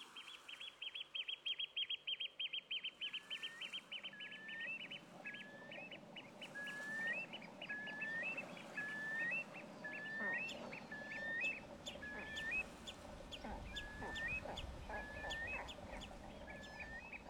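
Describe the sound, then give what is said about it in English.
Coastal bird calls: a steady series of about a dozen rising, whistled cries repeated at an even pace, clear, over a busy bed of fainter chirping and background noise. “And you can hear it precisely and measurably in the sounds of the birds.”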